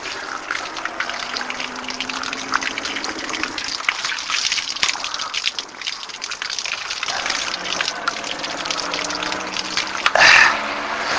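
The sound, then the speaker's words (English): Water gushing and splashing steadily, a bright hissing stream that swells into a louder burst near the end, as if poured or squeezed from a bottle, as a runner gets some water on a run in weather that is not that warm; no one speaks. “I'll get some water here.”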